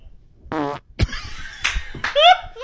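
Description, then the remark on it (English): A short fart with a buzzy, stuttering tone, muffled through woven boxer shorts, followed by a few bursts of laughter and excited vocal sounds. “That was such a token fart.”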